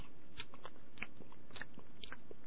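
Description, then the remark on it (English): Loud chewing near the microphone by men eating on air in a radio control room, with wet smacks and crunchy bites in an uneven rhythm of about five or six distinct mouthfuls over a couple of seconds, with no talking. “Sound like a cow chewing its cud.”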